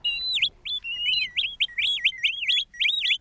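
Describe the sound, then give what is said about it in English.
Shorebird calls ring out in a rapid series of high, clear whistled notes, some sliding and warbling, repeating steadily with no voices present. “So for shorebirds, it's like summer's over as soon as it began.”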